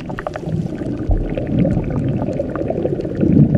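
Continuous churning and bubbling of water in the boiling river Shanay Timpishka, heated by fault-fed hot springs, dense and steady with scattered popping bursts, fairly loud, like a hot river roiling at a boil, with no voices.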